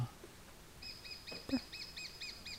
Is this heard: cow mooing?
no